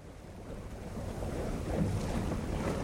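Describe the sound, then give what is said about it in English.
A boat motoring across open water in Port Fourchon near the Gulf, its low engine rumble steady beneath splashing wash and gusts of wind buffeting the microphone, continuous throughout with no voices. “On the boat in Port Fourchon, we can see the empty land where the refrigeration units might go.”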